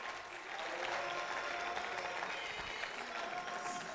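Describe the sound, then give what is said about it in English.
An audience breaks into steady, sustained applause, a dense wash of many hands clapping at once that holds evenly for several seconds, fairly loud, with no clear voices on top. “Everybody clap for them.”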